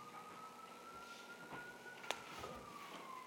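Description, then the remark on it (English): An emergency siren of first responders wails outside during a sermon, its single tone slowly rising then gently falling. It stays fairly faint against low background rumble, with one brief sharp click partway through. “Lord, you know the situation with the siren going out, well, first responders.”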